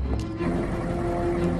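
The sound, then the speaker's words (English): A truck engine rumbles steadily as McGuire drives the truck away, a low droning hum with a faint whine on top, constant throughout. “McGuire drives off.”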